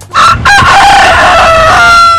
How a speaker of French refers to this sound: Le jour commence dès le chant du coq.